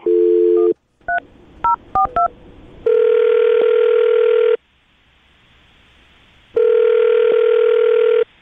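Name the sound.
telephone being dialed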